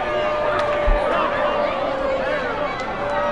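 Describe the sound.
A baseball crowd at a Missions game boos after a foul pop-up behind home plate, in a steady, sustained roar, many voices blending into a dense, continuous drone that holds at a fairly even loudness throughout.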